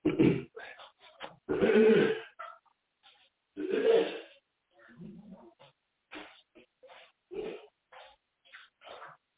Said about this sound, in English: Excuse me for one second. Let me clear my throat.